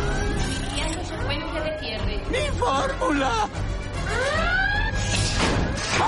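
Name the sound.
alarm going off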